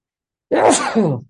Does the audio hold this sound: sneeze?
yes